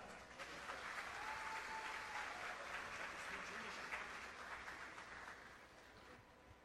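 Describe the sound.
Sustained audience applause, a dense wash of many hands clapping at steady volume, with faint crowd voices mixed in, tapering slightly toward the end.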